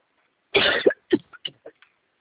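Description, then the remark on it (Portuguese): A harsh coughing fit from a woman during a phone call, in a bathroom: one loud, raspy cough followed by a quick series of four or five smaller hacking coughs that fade away, with no talking. “Nossa, moço, que tosse, meu.”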